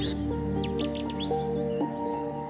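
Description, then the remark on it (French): A marsh bird calls with a handful of quick, high, sweeping chirps in the first second and a half, heard over a steady low droning hum, with no one speaking. “C'est vraiment un oiseau emblématique typique, du marais.”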